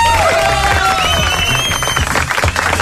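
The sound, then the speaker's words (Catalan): A studio audience of the radio show Versió RAC1 bursts into loud, steady applause for host Toni Clapés, mixed with cheering and a few sharp whistles, a dense wash of clapping that holds at full strength for a few seconds. “Un aplaudiment pel Clapés, també.”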